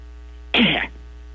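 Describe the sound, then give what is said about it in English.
A single short, harsh cough bursts out, loud and rough, from a person with a sore throat coughing at a doctor's request, then cuts off into quiet. No talking around it. “Okay, well, if you wouldn't mind dropping your drawers and turning your head, then give me a good old cough there.”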